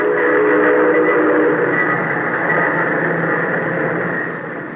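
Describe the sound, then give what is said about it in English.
A Soviet wartime train carrying Siberian troops to fight the Nazis rumbles steadily with a dense, sustained roar. A horn-like tone sounds over it for the first second or so before the noise gently fades toward the end. “Night and day, the trains rumble, trains bringing whole industries from European Russia, and the same trains taking men and material of war to European Russia.”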